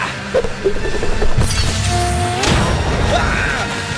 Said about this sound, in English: Cheap phones, why didn't they just go with the new BlackBerry Z10? In frustration, Jeffy Jeff throws his phone at the door of the silo.